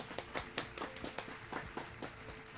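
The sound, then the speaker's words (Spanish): A few people clapping for a colleague: scattered, irregular hand claps forming a thin, uneven patter of applause, fairly soft, with no voices over it. “Aplauso para esta compañera.”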